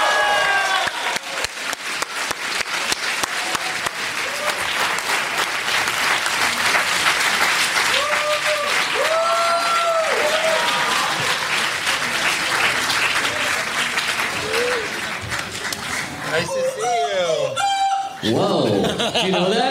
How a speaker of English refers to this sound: So if you guys can put your hands together for Peter Holmes. Peter Holmes, everyone.